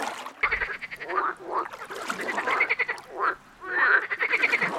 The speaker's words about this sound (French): On entend les grenouilles.